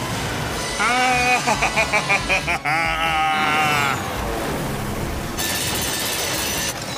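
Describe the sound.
A train rushes along with a steady rumbling roar, broken by a loud, pulsing, horn-like wail in the middle and a bright hiss near the end, while voices are heard over it.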